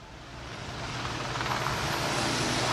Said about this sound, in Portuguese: Tem um helicóptero bem em cima aqui. Eu não ouvi aquilo que você falou.